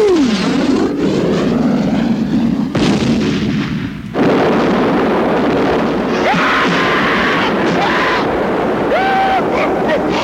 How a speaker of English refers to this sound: If you aim for those, not only does the mortar go boom, but then you get the additional explosion of the propane. Watch this.